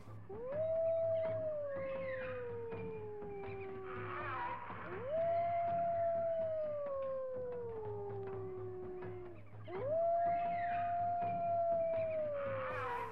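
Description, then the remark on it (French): Three long, mournful wolf howls, each rising quickly then sliding slowly downward over several seconds, spaced evenly with brief gaps, heard alone over a low steady hum. “Et si on commençait par les renards et les loups ?”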